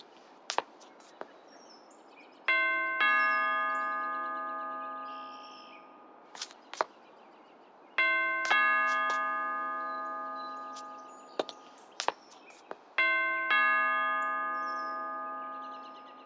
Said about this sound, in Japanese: よし、じゃあそろそろピンポン押しますか。